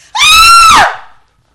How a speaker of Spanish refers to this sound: Entonces, madre gritó.